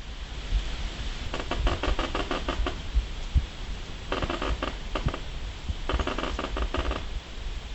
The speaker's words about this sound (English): That eerie sound of a tree creaking in October wind sets a seasonal stage for a Halloween challenge, exploring how Halloween, water, and human biology can all connect.